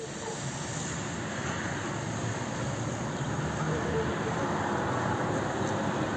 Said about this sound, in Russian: Это выстрелы системы реактивного залпового огня с оккупированной территории Херсонской области. Оттуда могли вести обстрел Николаева.